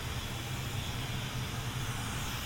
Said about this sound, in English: It looks like the vacuum has a certain spot, but it sounds like high-powered. Yeah, it's high-powered. That must be a spot cleaner.